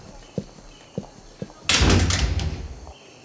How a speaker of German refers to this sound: Aufmachen sollte man auch die Tür.